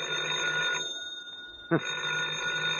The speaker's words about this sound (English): Oh, the phone again. You get to your feet, walk painfully across the room to the phone